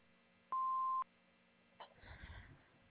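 A single answering machine beep, a steady mid-pitched electronic tone lasting about half a second, followed by quiet telephone-line hiss and faint rustling noise.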